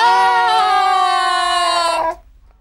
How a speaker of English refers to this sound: Candid pulls, Slimy pushes. The trapdoor opens. … screams. … screams. They both scream.